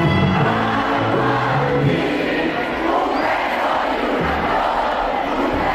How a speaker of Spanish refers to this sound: Cientos de pantallas gigantes estuvieron repartidas en plazas de pueblos y ciudades. Los gritos de ánimo durante el partido dejaron algunas voces roncas y la posterior celebración provocó lo mismo.